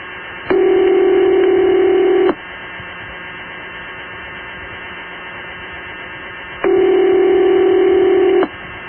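A telephone ringback tone over a phone line: two buzzy, steady rings about two seconds each, separated by a four-second gap of faint line hiss and hum. No one speaks.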